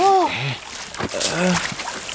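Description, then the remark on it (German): A brief splash and slosh of stream water in the middle as a hand reaches in for a glittering stone, set between short wordless vocal sounds from a child before and after, with a trickling background. “Das Kreuz auf der Karte ist mitten im Bach eingezeichnet. Schaut mal, da unten im Wasser, da glitzert etwas.”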